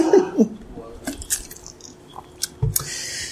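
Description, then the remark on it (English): Someone takes a drink of water: soft wet sipping and swallowing noises with a few faint mouth clicks and gulps, quiet and irregular, with no talking. “My voice is given out. Let's water it.”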